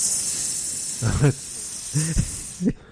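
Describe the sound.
A voice imitates a snake as Dirk Benedict turns into a snake, holding a long steady hiss throughout while three short throaty, voiced bursts break in near the end, fairly loud.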